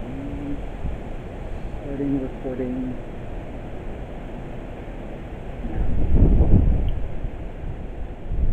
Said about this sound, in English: It is kind of windy, so I'm only going to say that this is going to go off when crazy, if anything comes over here.